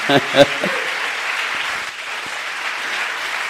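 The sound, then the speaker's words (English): Steady applause from an audience for a 26-year-old man, a missionary to Europe, a dense wash of clapping that carries on evenly, with a brief voice or cheer rising over it right at the start. “Give him a applause.”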